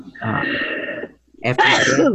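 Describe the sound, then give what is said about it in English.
A single loud sneeze: a drawn-out voiced intake builds for about a second, then after a brief pause a sharp, breathy burst follows. “Bless you, whoever that was.”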